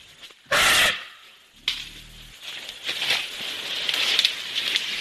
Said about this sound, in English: The sound of elephants crunching over the forest floor on the island of Borneo. These animals are special in many ways, from their diminutive size, roughly 8 to 9 feet tall, to their playful nature and baby faces.